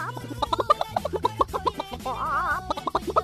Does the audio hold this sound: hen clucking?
yes